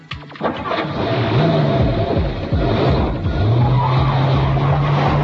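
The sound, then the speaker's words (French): A racing car's engine roars and revs loudly while tyres screech in long skids, the whining tones rising and holding steady over a dense, continuous mechanical din with no talking. “Cette semaine, on va commencer par la catégorie vedette de la fin de l'année, les courses de voitures ou de quasi-voitures.”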